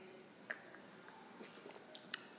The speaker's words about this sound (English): Tastes very charismatic. Yeah. First sip.